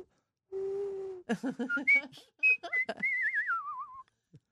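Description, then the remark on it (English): A person whistles a birdlike tune: a low steady note, then a run of quick chirpy trills and short high tweets, ending in a warbling, falling whistle. A voice imitating birdsong. “You could be a Disney bird.”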